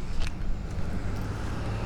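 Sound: road traffic passing by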